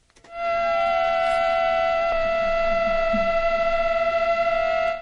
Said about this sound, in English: Now, what's actually happening is that the two mosquitoes are adapting the beating frequency of their wings so that they harmonise. Isn't that lovely? Mosquitoes singing in harmony.